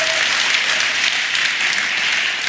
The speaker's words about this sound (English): So, yeah, and we really love our visuals team, and they're probably feeling a little pressure right now, but we're just going to take all pressure off, give them a round of applause, and it's going to be fine.